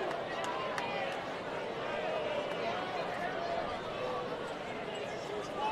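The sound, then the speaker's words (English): A large crowd of Rivercats baseball fans boos the computer umpire steadily, a dense, continuous wash of many voices with drawn-out low tones and scattered shouts that holds at an even level throughout. “Listen to those Rivercats fans booing the computer umpire.”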